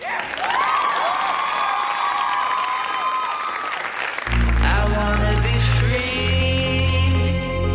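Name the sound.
crowd applause and cheering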